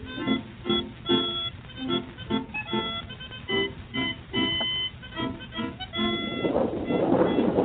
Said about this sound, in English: Is that the soldiers' cannons? No, it's thunder. It's going to rain.